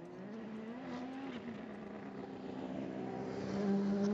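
The engine of a Mazda race car, number 77, drones steadily at mid pitch after a fuel stop, then rises in pitch and grows louder near the end as the car accelerates out of the pits and back onto the track, with no talking.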